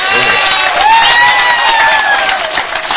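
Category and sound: crowd, audience applauding and cheering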